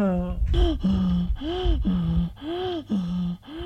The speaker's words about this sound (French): Dès qu'elle a remis l'oxygène, sa respiration devient rapide et forte. Il reprend des couleurs. Sa poitrine se gonfle. Sa respiration est très forte. Puis, elle devient normale.